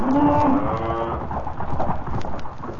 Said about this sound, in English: Nice herd of cattle you got there. Where are you bound for? Chicago.